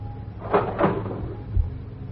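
household object, cash register drawer opening

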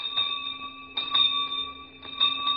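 signal or alarm, school bell ringing

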